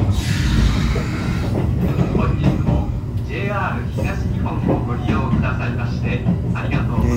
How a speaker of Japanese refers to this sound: 今私がいるのは東京の品川駅ホームです。で今私は特急ひたちの中にいまして、今まさに列車が発車したところです。